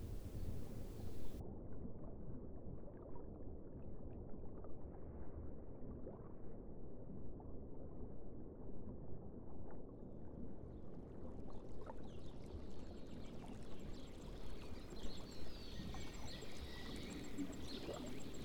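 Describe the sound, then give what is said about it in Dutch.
A dense, muffled low rumble of moving water, steady and enveloping, like flowing water heard from beneath the surface, with faint bubbling and higher fizzing entering toward the end. No voices. “En je hoort de onderwaterwereld.”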